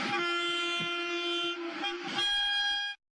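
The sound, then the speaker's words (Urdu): The horn of the Jammu–Srinagar Vande Bharat Express passenger train, flagged off from Jammu Tawi railway station, blares loud in one long, steady blast for about three seconds over the low rumble of the moving train, then cuts off abruptly. “Railway وزیر اشونی ویشنوَن کٔر Jammu Tawi railway سٹیشنہٕ پٮ۪ٹھٕ سری نگر جموں وندے بھارت ایکسپریس سروس آز جھنڈی ہیٚتھ روانہٕ.”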